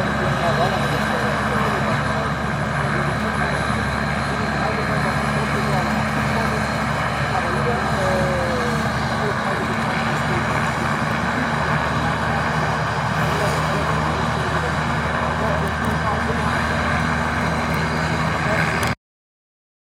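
A helicopter standing ready for a sightseeing flight runs its engine and rotor steadily and loudly, a continuous droning whine with a throbbing low undertone that holds unchanged for nearly twenty seconds before cutting off.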